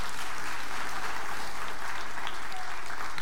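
An audience applauds steadily, many hands clapping in a dense, even wash that holds at a fairly loud level throughout, with no voices standing out.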